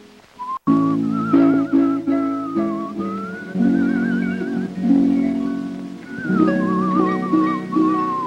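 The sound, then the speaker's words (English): A man whistles a wavering, vibrato-laden melody that rises and falls over a steady accompaniment he plucks on a string with his right hand, cupping his left to tamp the string, the whistle clear, with no talking throughout. “He whistles and raises his eyebrows at the old woman.”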